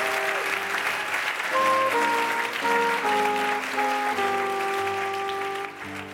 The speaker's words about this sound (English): All right, let's give a round of applause getting through the lightning round.